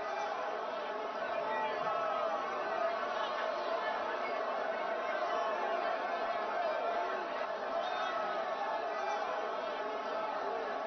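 A dense crowd chatters continuously, many overlapping voices blending into a steady, even murmur with no single speaker standing out, holding at a constant moderate level throughout.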